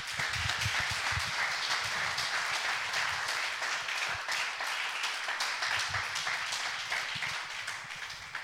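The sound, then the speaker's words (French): An audience applauds the Lord in a sustained, dense wash of clapping that stays loud and steady for several seconds before easing slightly at the end. “Vamos a dar un aplauso al Señor por On eso.”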